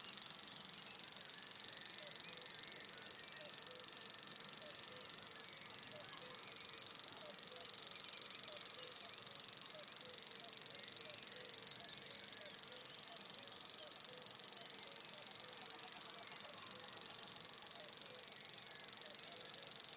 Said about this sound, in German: Der knapp sperlingsgroße Feldschwirl gehört zu den ausgesprochen heimlichen Vogelarten. Nur selten bekommt man ihn zu Gesicht.